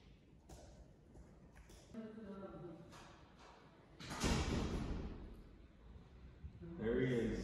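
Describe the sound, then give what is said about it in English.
Heavy knocking on a front door lands midway, a loud thudding burst, with people talking before and after it. “Who is at the door?”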